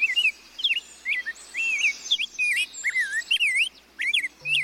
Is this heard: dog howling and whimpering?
no